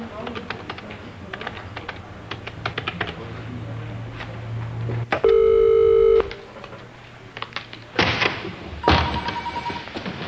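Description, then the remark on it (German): Keyboard clicks tap away, then a single loud electronic telephone ring sounds for about a second, followed by a couple of dull thumps. “Warum gehst du nicht ran?”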